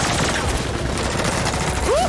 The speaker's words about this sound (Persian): صدای شلیکه. تو هم میشنوی؟